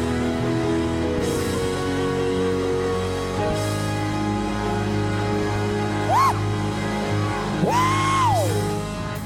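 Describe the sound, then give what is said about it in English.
A church audience shouting hallelujah and calling out to each other over a steady hum of background noise, with a couple of rising and falling yells standing out toward the end. “Turn to somebody else. Shout hallelujah. If they shouted back at you, give them a high five.”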